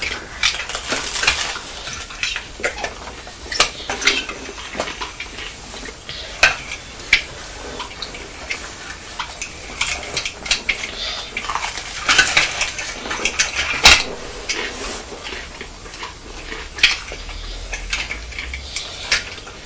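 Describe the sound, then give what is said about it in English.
A thin, steady high-pitched whistle of air escaping a drinking beaker runs throughout, with scattered small clicks and clinks and no talking. “Well, that funny noise is the noise of air coming out of your drinking beaker.”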